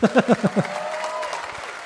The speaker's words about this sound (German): Okay, hier nochmal euer Applaus für ….